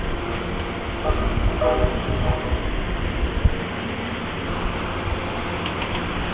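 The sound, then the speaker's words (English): A train horn sounds two long tones, then a heavy, heavily loaded passenger train begins to lurch forward with low rumbling, a sharp clunk of couplings, and steady rail noise building around it. “Okay, two long tones. It means he's ready to roll out. And there he goes. He's starting to lurch forward.”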